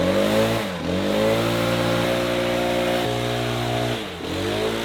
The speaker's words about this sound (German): Nicht friedlich, klingt eher wie ein Angriff, ein Feldzug. Keine Herbstbesinnlichkeit, ökologisch etwas bedenklich, der Laubbläser macht zu sauber und killt beim kräftigen Blasen Kleintiere wie zum Beispiel Spinnen. Aber effizient.